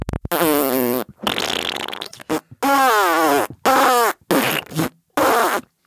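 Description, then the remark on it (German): A voice imitates a herring's fart message, a string of fart sounds, about six buzzing, rasping bursts of varying pitch and length with short pauses between, loud, for roughly five seconds. “Heringe pupsen sich Nachrichten zu. Ganze 5 Sekunden ist so eine Pupsnachricht.”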